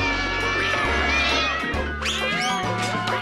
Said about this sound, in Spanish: Doña Gata Vieja trinchó por la oreja al niño Ratico, maullándole: ¡hola!